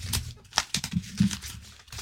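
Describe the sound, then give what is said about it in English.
Crinkling of wrapping paper as presents are wrapped, with a few sharp tearing bursts of tape being pulled from a roll, in quick irregular bursts over a couple of seconds with no talking. “You're just tearing tape.”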